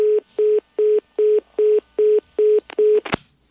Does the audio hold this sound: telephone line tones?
yes